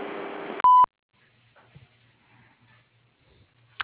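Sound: voicemail recording beep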